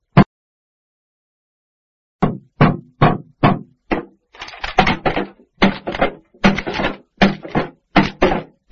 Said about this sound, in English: I've pressed it, but nothing's happening. I'm sure that the machine's empty. You mustn't bang that machine. I'm sure that it's empty.